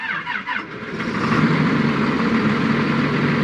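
A tractor engine idles, its low diesel rumble wavering briefly at first before settling into a steady, continuous chug with no voices.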